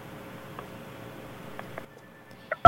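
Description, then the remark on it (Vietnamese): A single loud telephone keypad tone sounds abruptly at the end, following a few soft clicks over faint phone-line hiss and a thin steady tone, as a caller to a radio call-in programme presses phone buttons. “Chị đừng bấm điện thoại nữa.”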